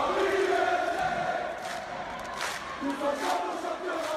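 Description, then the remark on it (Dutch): A large crowd of Paris Saint-Germain football ultras chants loudly in unison. Many voices form a dense roar with rising shouted bursts and a steady rhythmic swell, and no single speaker stands out. “Paris Saint-Germain heeft een fanatieke aanhang die veel kabaal maakt tijdens thuiswedstrijden.”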